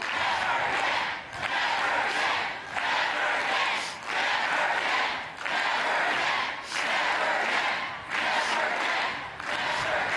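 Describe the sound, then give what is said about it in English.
A large crowd at a protest rally against lax gun laws and mass shootings chants loudly in unison, their voices rising and falling in a steady repeating rhythm of short phrases roughly every second or so. “Expressing solidarity with the massive crowds rallying across the U.S., people in different European countries have also hit the streets to condemn fatal shootings, which have become a frighteningly frequent phenomenon in America.”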